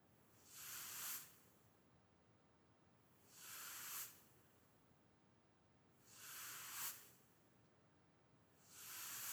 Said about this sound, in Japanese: 猫じゃらしで撫でてみます。びっくりしました。もう一度ほっぺを撫でちゃいました。